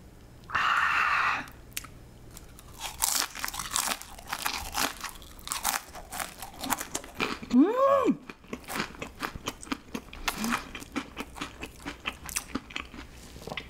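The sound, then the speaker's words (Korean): Loud crunching as someone bites and chews crispy waffle-cut, Chick-fil-A-style fries dipped in mustard and ketchup at once, with a rapid, uneven run of crackly crunches throughout and a short appreciative hum from the eater partway through. “벌집 모양으로 만드니까 훨씬 더 바삭하네.”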